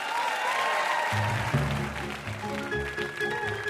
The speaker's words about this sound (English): That was a tight game and a hard one. Huge round of applause for these two contestants.